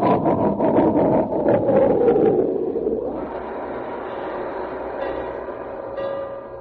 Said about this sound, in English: put on all of his brakes. Whoa, train, stop.